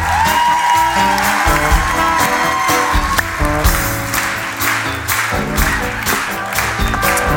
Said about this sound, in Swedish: Så, en stor applåd för tre härliga killar.